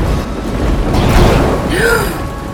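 A lightning strike hits a man, erupting as a loud, sustained crackling roar with deep rumbling underneath, and a short rising-and-falling vocal cry breaks through near the end.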